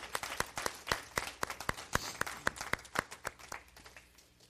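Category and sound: crowd, audience applause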